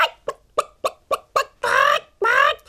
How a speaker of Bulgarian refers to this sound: Зарадвала се кокошката и почнала още по-силно да куткодяка.